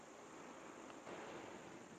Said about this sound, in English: Unfortunately, all I can capture at 6:45 in the morning is a bunch of traffic in the distance and the slight sound of the dripping of the downspouts.